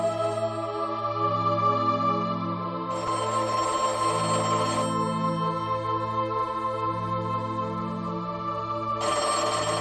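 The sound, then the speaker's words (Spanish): A telephone rings steadily and loudly, its bright electronic tone repeating in a continuous pattern with bursts of buzzy ringing, no voices present. “Te he llamado varias veces y como no cogiste el teléfono me preocupé.”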